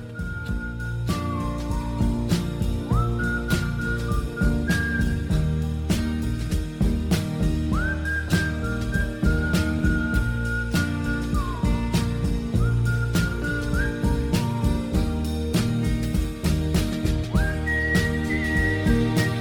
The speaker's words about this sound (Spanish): que se define a sí mismo como un silbador profesional. Y es que ya dijimos al principio que hay una clara relación entre el silbido y la música.